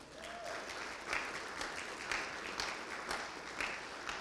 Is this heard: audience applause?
yes